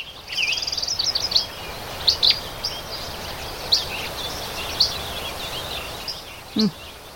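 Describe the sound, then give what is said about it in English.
A chorus of songbirds, including hermit thrush, yellow-rumped warblers and chirping sparrows: repeated high, thin chirps and trills scattered over a steady hiss, with a brief lower note near the end. No one speaks. “They are hermit thrush, yellow-rumped warblers, chirping sparrows, among others. Here's the sound.”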